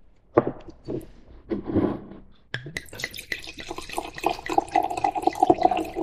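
An Austrian 2020 Klassik Qualitätswein is poured into a glass during an interview, starting with a few splashy drips and glugs, then a steady, gurgling stream whose pitch rises as the glass fills. No one speaks.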